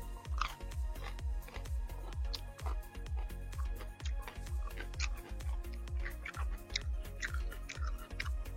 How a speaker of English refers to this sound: Sorry for my munching. But I am hungry after drinking a six pack and smoking weed.